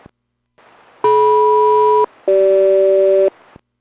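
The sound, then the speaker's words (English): A SELCAL call over aircraft radio during radio checks between Boeing Everett and the aircraft Boeing 820: two loud, steady dual-tone bursts of about one second each, separated by a short gap, the second pair pitched slightly differently, over faint static hiss. “Alright, cell call checks good.”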